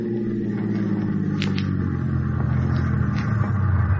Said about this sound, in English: You park the car on the tracks, stall it with the keys left in the ignition,